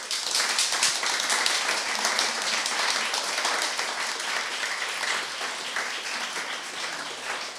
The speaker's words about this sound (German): Das sind nämlich, und da würde ich Sie bitten, vielleicht sogar einen kleinen Applaus zu liefern